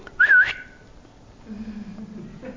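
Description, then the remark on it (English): A person gives a short, wavering whistle lasting about a quarter second, fairly loud, followed by quiet with a faint low murmur in the background. “It wasn't like he had a special whistle.”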